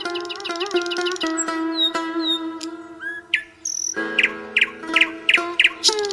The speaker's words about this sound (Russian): Слышат шах и визирь, как в саду поют соловьи, как благоухают невиданные цветы, как шелестят листьями деревья.